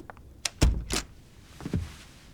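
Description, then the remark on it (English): An office door swings shut with a sharp latch click and a heavy, solid thud, followed a moment later by a few softer knocks as it settles. No one speaks. “Close the door and sit down.”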